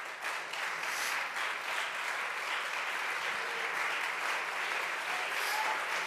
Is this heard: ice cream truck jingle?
no